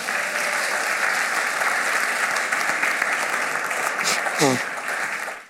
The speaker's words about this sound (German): Gib mal den beiden Applaus.